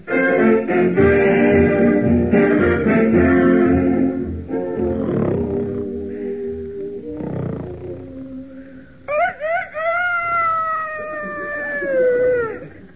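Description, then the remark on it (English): Music plays and fades, then a Rhode Island bred rooster, set as an alarm for 9, crows at 6 o'clock in the morning in a comedy scene at Buck Benny's home: two short clipped notes followed by a long, wavering, fairly loud call that bends downward at the end. “Doggone it, I had that rooster set for 9.”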